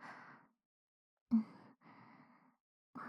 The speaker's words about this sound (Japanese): とはいえ、あなたはおそらくこういった静かな息遣いの方がお好みかと思いますが。